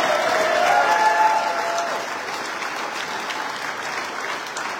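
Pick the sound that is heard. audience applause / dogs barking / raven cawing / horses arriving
audience applause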